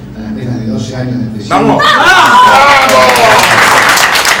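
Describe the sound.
A man's voice speaks briefly, then a woman lets out a loud, high, wavering cry of jubilation that rises over a sudden burst of crowd clapping and cheering.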